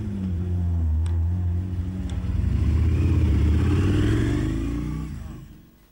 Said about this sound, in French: On va avoir des beaux bruits de voiture alors. Ouais, c'est bien les voitures.